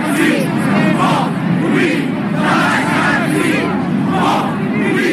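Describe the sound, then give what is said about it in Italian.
About one million people in Lisbon, on 1 May, Workers' Day, chant the protest slogan "O povo unido jamás será vencido" in unison, loud and continuous, the massed voices rising and falling in a steady rhythmic cadence with a dense roar of cheering beneath. “Il 1 maggio, in occasione della festa dei lavoratori, a Lisbona scendono in piazza 1 milione di persone al grido di «O povo unido jamás será vencido».”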